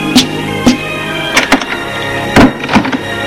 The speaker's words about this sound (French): Et le domestique ferme la porte.